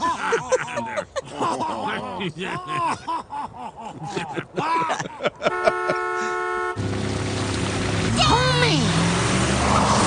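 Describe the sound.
Wordless voice sounds give way to a loud, steady truck horn blast lasting about a second, followed by the rumbling engine of a large truck arriving on a frozen river, with a brief vocal cry over the noise.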